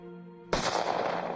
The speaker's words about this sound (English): A gunshot to the head. A gun purchased by Carol Bundy.